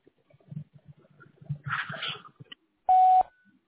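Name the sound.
voicemail recording beep tone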